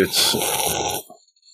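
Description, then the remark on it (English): A loud slurping sip of a drink, about a second of hissy, gurgling noise that stops abruptly, followed by a brief faint trailing sound. “Just gonna have a loud sip.”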